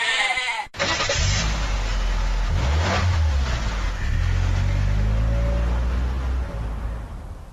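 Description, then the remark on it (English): A car engine revs and accelerates, its low rumble continuing as a goat bleats repeatedly over it, the wavering cries rising and falling in pitch. “The only remaining question is, do you actually want to win a car? Or would you rather win a goat?”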